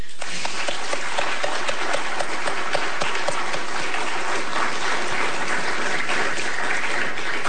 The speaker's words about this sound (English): Thank you very much, both of our candidates. You can applaud now.